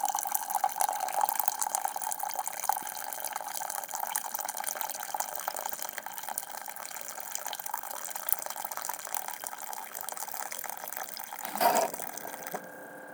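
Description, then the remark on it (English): A coffee machine dispenses a steady stream of water into a small coffee cup after its small cup button is pressed, a continuous trickling hiss with a faint pump hum beneath, ending in a brief sputter near the end. “And you hear dispensing water into the cup.”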